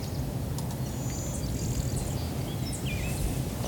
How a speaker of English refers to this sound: That's the blue wing warbler. Yeah, I thought so. Yeah. Is that what I heard? Yeah, the blue wing warbler.